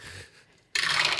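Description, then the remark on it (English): Many dice are rolled, rattling and clattering, a softer shuffling followed by a sudden louder burst of sharp clicking as they tumble, with no voices. “Get some dice for this.”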